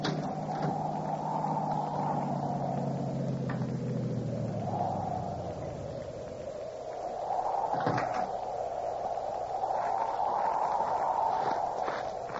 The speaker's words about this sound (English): That car down there at the foot of the hill just turned in your driveway.